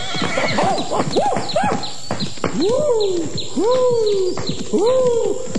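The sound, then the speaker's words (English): A horse carrying two passengers clinging to its back neighs and whinnies repeatedly in loud, rising-and-falling cries, with sharp clip-clopping hooves clattering underneath throughout. “Stop! I said stop, you monster! I'll make horse meat out of you!”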